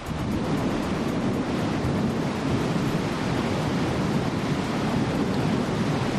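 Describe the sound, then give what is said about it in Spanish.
Torrential rain pours down in a dense, unbroken roar, a steady hiss with a deep rumbling undertone that stays loud and even throughout, with no voices. It is the 30 September downpour that flooded the city of Alicante, dropping more than 270 litres per square metre. “Es el sonido de la lluvia torrencial que anegó la ciudad de Alicante.”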